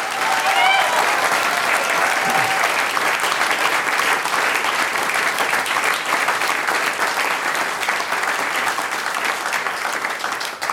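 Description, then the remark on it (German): A live audience claps loudly and steadily for a performer during a live radio recording, a dense wash of applause for the whole stretch without fading, with a faint whistle or cheer near the start. “Noch einmal einen riesen Applaus”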